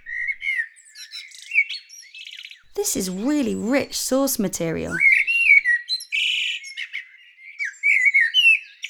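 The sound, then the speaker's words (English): A blackbird sings in varied, fluty whistled phrases with pauses between them, and a voice speaks briefly over the song partway through. “It's all about the blackbirds.”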